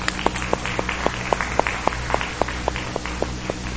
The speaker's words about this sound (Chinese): 我们先将我们先用掌声将荣光献给我们的天父上帝。